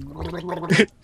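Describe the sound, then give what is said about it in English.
A person gags after tasting something foul, a strained, throaty retching sound that rises into a harsher, raspy burst before cutting off abruptly. It is moderately loud with no speech. “All I can hear is you gagging.”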